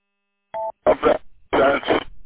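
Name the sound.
telephone keypad dialing tones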